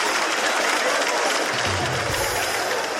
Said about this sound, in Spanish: Un aplauso para ella. Un aplauso, por favor.